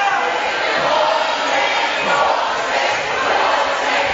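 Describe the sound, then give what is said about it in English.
A loud, sustained roar of a basketball crowd at an Oakdale game yelling and jeering in protest for a travel call as a foul is called instead, a dense wall of shouting that stays steady for several seconds. “The crowd wanted the travel.”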